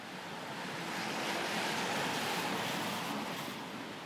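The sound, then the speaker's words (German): A steady, rushing gust of cool wind blows across Alexanderplatz in Germany, between the TV tower and Rathauspassagen, in late March 2021 during lockdown. It swells slightly in the middle and holds a broad, airy hiss throughout, with no voices. “Ein kühler Wind weht über den Alexanderplatz.”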